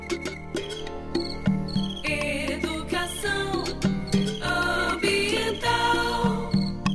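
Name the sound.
frog calling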